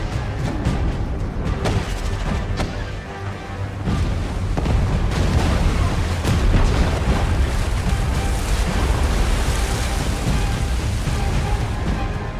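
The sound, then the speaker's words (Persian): A deep, rumbling boom swells and rolls on for several seconds, heavy low-end churning like a muffled underwater blast after a torpedo launch, with no voices. “آماده و شلیک کنیم.”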